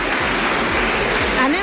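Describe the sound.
A burst of applause from a group, dense and steady clapping filling the whole moment at an even level, with a faint voice or whistle rising near the end.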